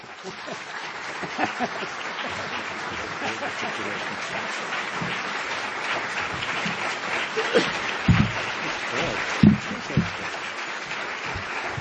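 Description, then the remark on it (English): Sustained audience applause fills the whole stretch, a dense steady patter of many hands clapping at an even level, with a few louder bursts and faint voices mixed in toward the end. “You can keep clapping, it's okay.”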